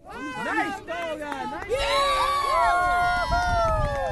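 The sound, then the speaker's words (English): Parents cheer and shout over one another at a weekend youth soccer game in the Boston area, with rising and falling yells and whoops, steady and fairly loud throughout. “Some parents cheering at a weekend youth soccer game here in the Boston area.”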